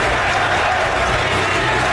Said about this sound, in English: You hear the crowd is chanting to the Sixers? Beat LA.